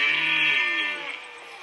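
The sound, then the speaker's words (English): A red stag gives a single deep, drawn-out roar, hoarse and moaning like a cow's low, lasting about a second before trailing off into a quieter rasp. “No, it's a red stag.”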